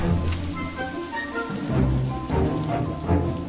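pouring rain

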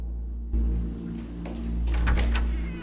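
apartment door opening

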